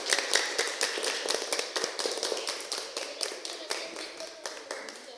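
A crowd applauds a teacher steadily, many hands clapping in a dense, continuous patter at moderate volume, without any voices over it.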